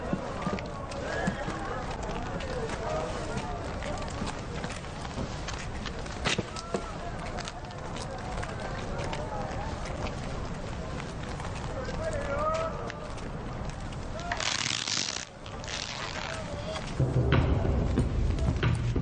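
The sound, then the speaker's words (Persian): Horse hooves clip-clop at an easy walking pace, a steady run of hoofbeats that continues throughout while people talk over them. “اگه به اندازه کافی قدم زدین پس میشه سوار اسبتون بشین؟”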